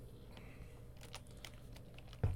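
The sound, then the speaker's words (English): Quiet, irregular clicks of typing on a computer keyboard while playing a computer game, a handful of light keystrokes spread across a couple of seconds, ending with a soft thump; no one speaks. “And the keyboard.”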